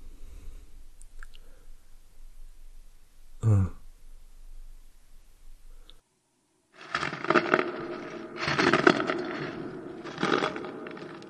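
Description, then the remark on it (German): A quiet stretch broken by one brief sharp crack, then a loud, gritty creaking and crunching by a door starts up and swells in rough, uneven pulses for several seconds, with no voices. “Doch, da knirscht doch was. Bei der Tür.”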